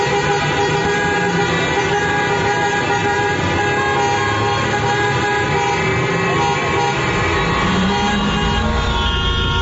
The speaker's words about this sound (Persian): بله، همینطور در همین رشت و اضافه بر اون در شهرهایی مثل کرمان و سنندج و مشهد و محلاتی مثل صادقیه و بولوار کشاورز تهران هم معترضین با به صدا در آوردن بوق ماشیناشون به استقبال نظام مقدس رفتن تا یه وقت یادش نره که چیزی تموم نشده.